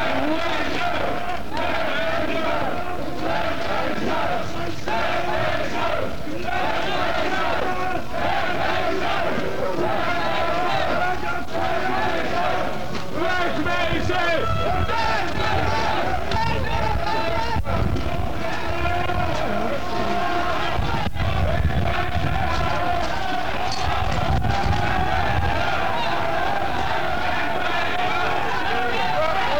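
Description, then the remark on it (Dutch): A dense crowd of demonstrators shouts at Mayor Fantijn as he walks surrounded by people toward the Haarlemmerweg, many voices overlapping into a loud, steady roar with occasional sharper yells rising above the din. “En nu zijn ze allemaal aan het schreeuwen.”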